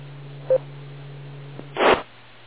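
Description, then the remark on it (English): A single short electronic beep from a cell phone email alert sounds clear over a low steady hum, followed a moment later by a brief rough burst of noise. “See, I got an email on my cell phone.”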